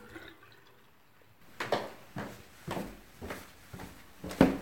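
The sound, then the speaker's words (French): Wooden stairs in a home in a town in the Ain, France, creak as a person walks down them in a steady, unhurried rhythm: about six or seven muffled steps, each with a short woody groan, after a quiet opening second. No one speaks. “Je descends. J'aime ces escaliers qui grincent un peu.”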